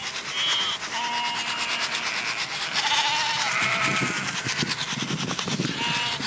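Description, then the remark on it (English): A crowded flock of about 100 sheep and lambs bleats over and over, many overlapping calls, amid constant shuffling and rubbing noise as the animals jostle to feed from one bucket. “If you try and feed 100 sheep out of one bucket, it gets a little hectic.”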